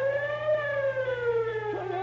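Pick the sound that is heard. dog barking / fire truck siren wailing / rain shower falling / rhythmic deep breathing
fire truck siren wailing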